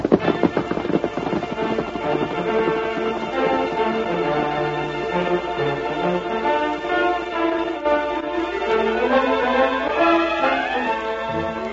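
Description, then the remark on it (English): The hooves of the horse Silver clip-clop in a quick, steady rhythm as it is ridden off, then fade as a swelling orchestral music cue takes over. There is no speech. “Then it's safe to follow him. Come on, Silver. Get him up. Get up.”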